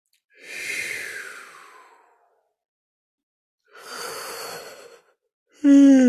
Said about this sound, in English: And when I yawn, it's not tired, it's just moving energy.